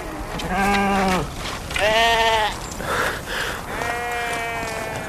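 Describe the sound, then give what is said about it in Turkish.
A flock of sheep, attacked by wolves, bleats in loud, wavering cries, four or five calls overlapping one after another, some higher-pitched than others, with no talking. “Kurtlar sürüye saldırdı.”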